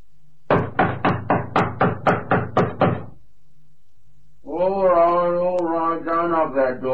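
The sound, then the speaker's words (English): Police officers knock on a house door in the evening: a quick, evenly spaced run of about nine loud knocks, followed after a brief silence by someone speaking. “If they're in, they don't want to answer the door.”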